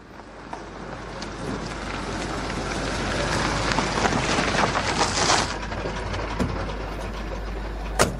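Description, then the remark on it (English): A taxi drives along with a steady, rushing engine and road rumble that swells slightly in the middle, broken by a few faint clicks and knocks, with no voices. “Look, let me try and hail us a taxi.”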